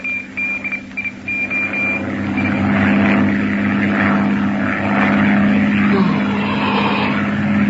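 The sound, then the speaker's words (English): A propeller airplane engine drones steadily and loudly in flight, in the fifth hour of the flight, having burned about 300 gallons of fuel so far; a continuous low hum with a slight wavering pitch and no voices. “Engine's burned about 300 gallons so far.”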